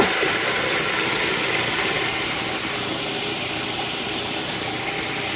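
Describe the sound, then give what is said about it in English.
A food processor whirs steadily, grinding 2.5 cups of oatmeal into oat flour with a loud, constant motorized roar and a gritty, hissing texture that holds unbroken throughout, with no voices. “I'll put the lid on the food processor and I'm going to turn it on.”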